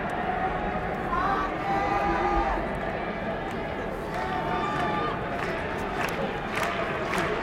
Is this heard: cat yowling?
no